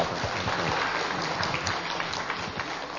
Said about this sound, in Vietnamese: Dâng lên Chúa thương xót một tràng pháo tay, bám vào Chúa được như vậy. Chúng ta dâng lên Chúa một tràng pháo tay nha.